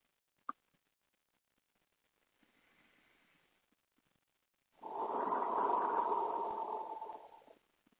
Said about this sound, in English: And with the exhale, release the energy. You can blow it out your mouth, visualize it as energy going out your mouth, drifting off into the horizon.